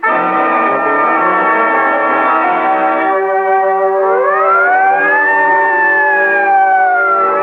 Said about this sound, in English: Then the sirens howl because a man is dead, and their cry tears a path through the wilderness of the city.